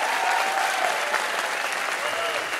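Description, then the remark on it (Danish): An audience at a film event claps steadily in a dense, unbroken wash of many hands, showing how many have seen the film this evening. It stays loud and even throughout, with faint voices mixed in beneath. “Okay, og hvor mange giver til udtryk via klap, hvor mange har set filmen her til aften?”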